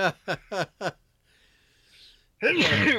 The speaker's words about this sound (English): I got a sneeze.